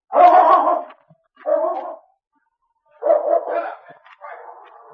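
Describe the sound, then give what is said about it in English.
A big, strong dog barks in several rough, drawn-out bursts, two separate ones followed by a longer run of barking after a short pause. It is loud, with no talking. “That man looks as mean as his dog.”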